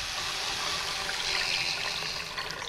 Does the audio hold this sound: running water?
yes